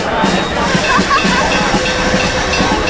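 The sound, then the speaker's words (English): A train pulls out of a station amid a loud, steady hiss of escaping steam, with a low rumble of the cars beneath and a few faint metallic squeals, plus indistinct background murmuring. “as the train moved out of the station.”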